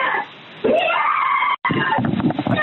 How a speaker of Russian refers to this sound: Девушка, вы слышите, как она орет там за дверью?